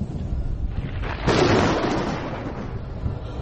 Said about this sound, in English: The crowd. crowd standing there heard the voice, and some of them said it was thunder, while others said an angel spoke to him.